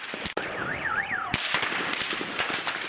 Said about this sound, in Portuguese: Depois de cerca de 3 meses de protestos, a polícia entrou na Praça da Independência, na capital, onde os manifestantes se têm concentrado. Cercou-os e seguiu-se uma noite de confrontos violentos, explosões e chamas num cenário de caos.